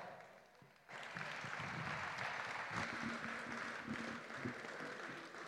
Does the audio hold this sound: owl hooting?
no